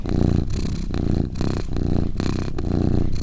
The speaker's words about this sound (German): Und obwohl ich absoluter Hundemensch bin, bin ich trotzdem der Meinung, dass Katzenschnurren eins der besten Geräusche ever ist. Deswegen, here you go.